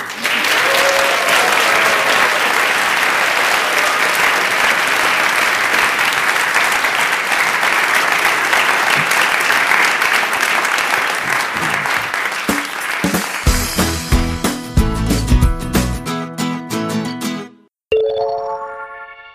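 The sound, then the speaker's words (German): A large audience claps for two guests at the end of a recording, a dense, steady, fairly loud burst of applause for several seconds, before it gives way to a short musical jingle at the end. “Und das ist euer Applaus.”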